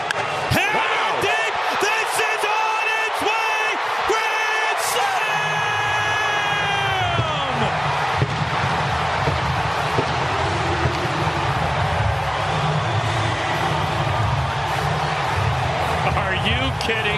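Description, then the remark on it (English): A stadium crowd erupts in cheers after a bases-loaded, two-out hit: a loud, continuous roar with shrill whoops and whistles early on, settling into a steady, rumbling wall of cheering. “Just let it breathe. Let the crowd do it.”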